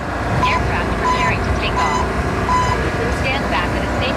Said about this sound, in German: So wie ein junger Landwirt im Landkreis Uelzen. Der geht beispielsweise neue Wege in der Landwirtschaft und testet den Einsatz von Drohnen auf dem Acker.